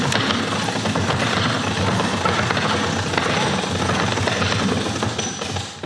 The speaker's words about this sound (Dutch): En zo gaat er een deur open in het dak. Ja, het is niet bepaald een Velux dakraam, maar het creëert wel een heel mooi zicht op de hemel.